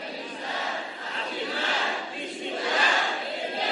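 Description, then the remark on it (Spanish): A small group of voices shouts together loudly in one sustained, blended roar that swells and dips in waves for a few seconds, with no single clear speaker standing out. “Oiga, esos son poquitos pero gritones.”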